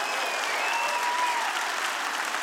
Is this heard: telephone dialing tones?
no